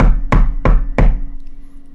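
Three heavy, evenly spaced, loud knocks strike an apartment door in quick succession, each with a brief resonant boom, followed by a low room hum.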